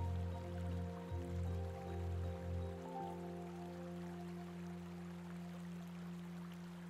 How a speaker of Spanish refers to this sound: Al apartar una rama en tu camino, observas que hay un precioso manantial de agua pura, potable y cristalina.